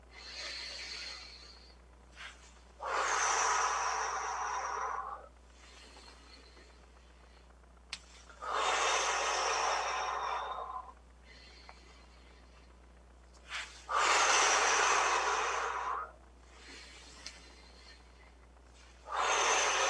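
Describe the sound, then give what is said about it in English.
Three long, deep breaths, each a loud airy rush lasting a couple of seconds, separated by quiet pauses in a slow, steady rhythm, with no talking. It is a guided breathing exercise: interlaced hands are raised overhead on the inhale and released on the exhale. “I always think about when I do the breathing exercise on this show that I'm, you know, modeling it.”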